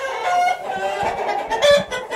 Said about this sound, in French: Comment c'est les coqs qui se préparent?